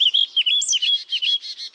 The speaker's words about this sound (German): Das war eine Mönchsgrasmücke.